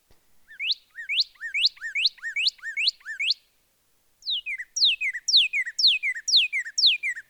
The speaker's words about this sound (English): we can't resist playing one more bird song. This one is a northern cardinal.